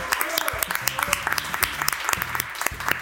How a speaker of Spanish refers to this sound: Un aplauso, por favor.